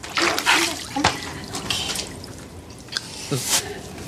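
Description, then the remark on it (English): Wet splashing and squishy dipping of a sneaker into pool water, a few distinct plunges and drips spread over a few seconds, with soft sloshing between them. “She dipped her whole sneaker in.”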